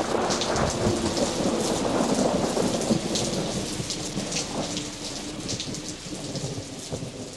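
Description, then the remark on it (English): Steady, heavy rain hisses and patters without a break while low thunder rumbles underneath, swelling in the first few seconds and easing slightly toward the end. No voices are heard. “I was not paying attention to what the weather was doing, and apparently it had gotten quite ugly outside.”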